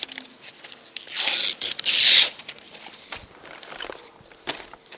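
Paper rustles, then two sharp, noisy bursts of tearing in quick succession, followed by quieter shuffling and light handling sounds. No one speaks.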